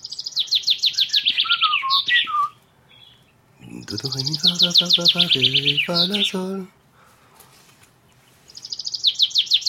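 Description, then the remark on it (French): A nightingale sings on its own in three bright, rapid trilled phrases separated by short pauses, the middle phrase mixing in lower, fuller whistled notes. Clear, with no other sounds. “Et l'oiseau tout seul.”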